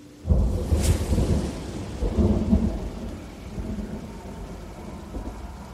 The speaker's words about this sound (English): As I look outside, the skies are cloudy, but I hope the weather holds up for a drive later. It's a bad night for rain.